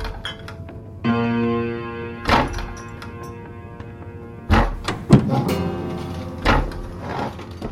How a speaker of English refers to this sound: They've all started banging their tables.